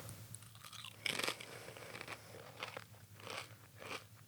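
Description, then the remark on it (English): Someone bites into a crisp flavored chip with a loud crunch, then keeps chewing with several sharper, irregular crunches. No one speaks, and a low hum runs underneath. “That tastes like a potato chip.”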